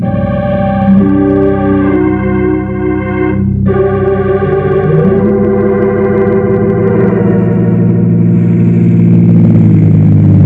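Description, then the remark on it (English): A car engine hums loudly, its steady drone shifting in pitch as the car pulls well off onto the road shoulder and eases to a stop, with no voices. “I pull off plenty far on shoulder, Bill, so car not in way.”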